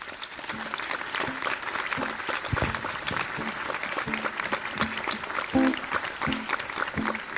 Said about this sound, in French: Je vous demande d'applaudir bien fort